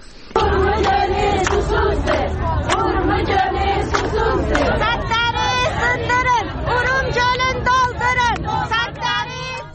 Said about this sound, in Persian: تجمع در برابر اداره کل منابع طبیعی و آبخیزداری خواستار احیای دریاچه ارومیه شدند و نسبت به پیامدهای خشک شدن این دریاچه هشدار دادند. شرکت کنندگان در این تجمع به زبان ترکی شعارهایی از قبیل ارومیه تشنه است و سطح‌ها را بشکنید، دریاچه را پر کنید سر دادند.